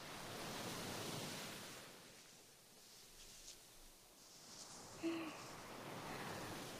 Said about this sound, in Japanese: 海を楽しむのなら夜がちょうどいいかもしれないですね。砂をさらう音、押しては引いていくしじま、音だけなら海そのものです。